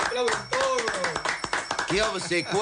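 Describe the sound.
Sharp hand claps, fairly loud, welcoming a man as he arrives, coming in an irregular flurry while voices talk and call out over them.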